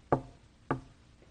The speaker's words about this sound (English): Who's knocking at your door?